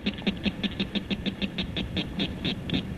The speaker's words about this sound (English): Here, this little guy's call may not carry that far, but it's the northern cricket frog.